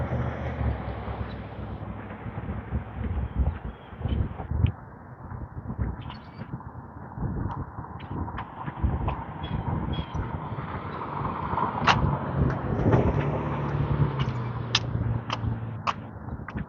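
A steady outdoor wind rushes through the leafy branches of willow trees in the morning, swelling and easing in gusts over a low rumble, with scattered faint ticks and snaps; no one speaks.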